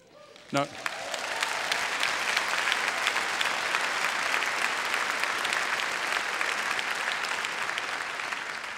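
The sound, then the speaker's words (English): A large audience breaks into sustained applause and cheering after a brief sharp sound, the clapping dense and steady throughout, at a fairly loud, even level. “Guys, I thought I heard a little higher pitch to that cheer.”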